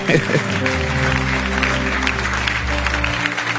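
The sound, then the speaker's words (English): An audience in a church service claps steadily and loudly as a clap offering to the Lord, a dense, continuous wash of many hands throughout, with low sustained musical tones humming underneath. “The way you are clapping.”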